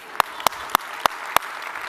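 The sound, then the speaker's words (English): An audience claps in unison for people in the room who stood up: five sharp, loud claps in a steady rhythm about a third of a second apart, over a soft wash of crowd noise. “Let's clap it up for these pioneers.”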